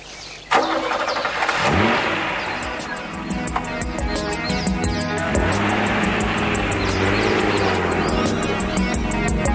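A car engine cranks and catches with a sudden loud start, then settles into a steady, rumbling run, humming continuously for several seconds with no one speaking.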